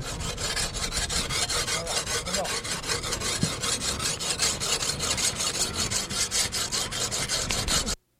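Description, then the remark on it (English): Steady, rhythmic rasping strokes as a crew cuts up a whale carcass, a job of about six hours in all: a rough back-and-forth sawing sound that continues for about eight seconds before stopping abruptly, with no talking. “How long have they been cutting up this whale?”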